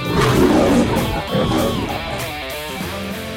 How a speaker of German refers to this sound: Der Löwe hat gebrüllt, deswegen müssen auch wir brüllen.